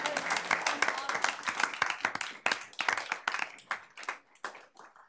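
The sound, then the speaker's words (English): An audience at a South Jordan city gathering breaks into applause, dense overlapping claps that stay strong for several seconds, then thin out into scattered individual claps as the clapping dies down. “Okay, we don't usually clap in here, but we're going to.”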